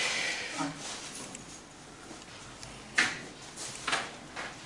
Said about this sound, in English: Can you please close the door?